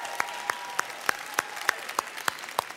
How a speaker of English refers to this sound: I want to know, by show of applause, even if you're streaming, you can clap on this. If you think it is okay to listen to Christmas music before Thanksgiving, even as early as Halloween, just by show of applause, let me hear who's in that camp.